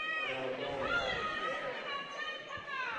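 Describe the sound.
An unhappy basketball crowd reacts to a travel call with a dense, steady wash of many overlapping voices, scattered louder shouts and groans rising above a fairly loud, continuous roar.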